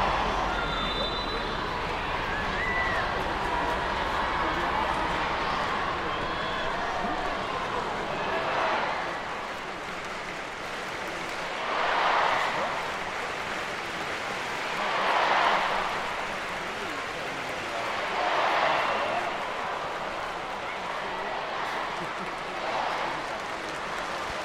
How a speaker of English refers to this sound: Chanting. This is the first time we've had the crowd get into it. More of this, please.